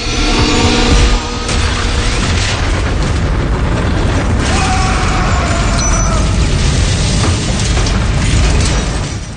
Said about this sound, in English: And there's a big gunfire that happens between him and the SWAT team. Right. Which sadly leads to a horrible explosion.